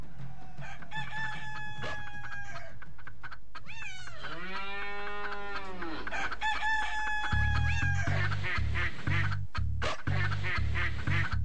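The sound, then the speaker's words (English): A Zimbabwean parody of a children's farm song about farm seizures from white farmers opens with a barnyard chorus of clucking chickens, a loud rooster crow and quacking ducks, then a thumping low beat kicks in beneath the animal noises. “se je v javnosti pojavila tudi ta parodija pesmi Old MacDonald Had a Farm”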